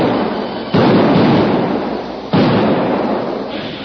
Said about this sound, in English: the men sank charges of blasting powder into speedily dug holes in the bank, which formed a juncture between the stream and the arroyo. Then a series of explosions rent the air.